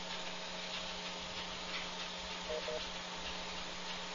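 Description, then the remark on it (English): A clothes dryer left running late at night, heard on air during a radio broadcast, runs steadily, giving off a constant low hum and broad whooshing whir, with faint irregular ticks and rubbing from the tumbling load. No one speaks. “left a... dryer on, you know, the dryer machine? Now you can hear it on the air.”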